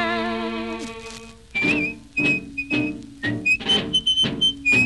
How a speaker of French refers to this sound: Le soir à l'heure de l'apéro, il s'amenait dans notre bistrot, toujours tout seul, sans un copain, en sifflotant un drôle de refrain.